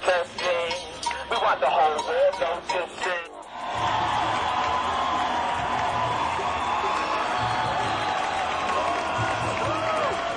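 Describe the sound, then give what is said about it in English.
A voice speaks briefly, then a large crowd of protesters erupts into sustained, loud cheering and shouting as a bus backs off and they occupy the ramp, a dense roar of many voices outdoors that carries on steadily to the end. “And the cheer's gone up, the bus is backing off, and the ramp is occupied by the protesters, and the gate is secure.”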